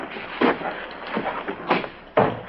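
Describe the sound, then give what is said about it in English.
A door leading to a kitchen is opened with a handful of dull thuds and clunks spaced unevenly over a couple of seconds, with a faint background hiss and no talking. “Stepping to another door, he opens it to find Louis in the kitchen.”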